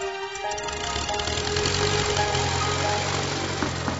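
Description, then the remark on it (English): The piston engine of a small handmade homebuilt airplane is started, catches and settles into a steady, loud running drone with a rough, knocking rhythm and strong low hum, continuing without pause. “Did you put oil in the engine? No, I didn't forget that. Got the test cards? Yep. Okay, light her up.”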